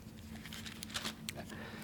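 Pages of the audience's Bibles turning as they look up Psalm 56:5 during a sermon, heard as a scattering of soft, brief papery flicks and rustles over a steady low hum, quiet and irregular with no voices.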